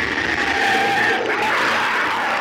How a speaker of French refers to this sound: Poussaient de terribles cris.